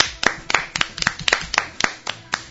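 Steady, rhythmic clapping: about ten sharp, crisp hand claps at an even, brisk pace, fairly loud, with no voices over them.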